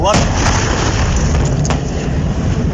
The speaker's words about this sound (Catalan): Realment l'explosió va ser sonada. Tenim el document aquí, del so, crec, a veure.